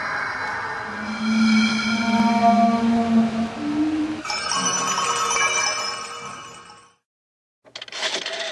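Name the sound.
telephone ringing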